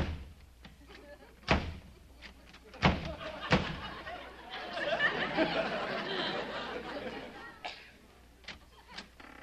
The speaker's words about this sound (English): And listen, Kingfish, stop slamming that door, will you?